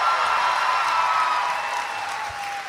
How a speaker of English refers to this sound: Teachers don't get enough applause. Yeah. Yeah. Hey. Let's clap for teachers. Yeah.